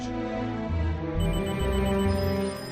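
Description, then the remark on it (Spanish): A telephone ringing effect rings out steadily for a few seconds, a bright, buzzy tone with rich overtones over a low droning bed, holding at even loudness with no voices. “Es que tiene efectos de teléfonos.”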